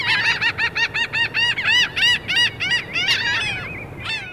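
Laughing gull (Leucophaeus atrascilla) calls on the coast of Texas near Houston: a rapid, rhythmic run of about a dozen loud, nasal, laugh-like notes, ending in a couple of longer, drawn-out cries, with no talking.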